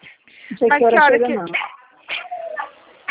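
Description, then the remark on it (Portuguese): A female dog waiting for her owner lets out a loud, wavering whine-like yelp for about a second, followed by a few shorter, softer vocal sounds. “Minha cachorra está me esperando aqui.”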